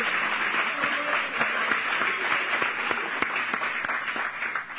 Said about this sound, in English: Can you give the Lord a hand clap offering? Amen. Amen. Hallelujah. Praise God.